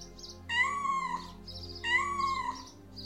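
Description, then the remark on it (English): A small cat meows twice, two drawn-out, high-pitched cries about a second apart, clear, with no one talking. “The small cat.”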